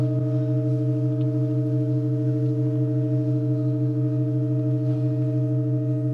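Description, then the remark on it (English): A sustained pipe organ drone, heard during a long-running organ performance before a silent audience of hundreds, holds one low, unchanging chord at steady volume throughout, its rich harmonics humming evenly with no pauses, voices or other sounds. “I was surrounded by hundreds of people, no one making a sound, as we just listened to the unchanging drone.”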